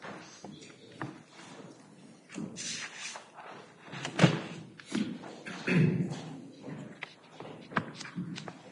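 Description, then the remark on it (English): A courtroom empties out with shuffling footsteps, scattered thuds and doors closing as people clear out, plus faint murmuring voices in the background, the bumps irregular and moderately loud against a steady hum. “Going to need to wait a minute until the courtroom clears and the doors close.”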